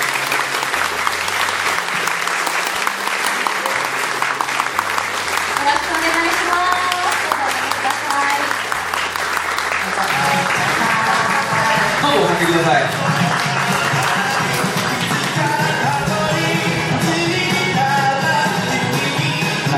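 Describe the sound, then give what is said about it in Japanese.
Loud, sustained audience applause welcoming two guests on stage at an AUGM event in Tokyo, a dense steady clatter of many hands with a bass-heavy musical line running underneath and occasional raised voices in the crowd. “皆さん、さっきの3倍の拍手をしますね。”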